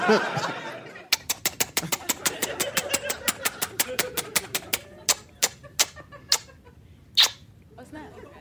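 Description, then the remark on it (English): A prize wheel spins with rapid, crisp ticking that gradually slows, clicks spreading farther apart until it stops. A voice is heard briefly just before the spin begins. “Let's spin it again.”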